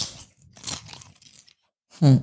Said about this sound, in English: eat the rest of this goddamn popcorn.